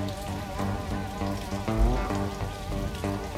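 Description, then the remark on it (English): Steady rain hisses continuously across the whole stretch, even, mixed with sustained low tonal notes that shift every half second or so underneath the patter. “Headlights in the rain.”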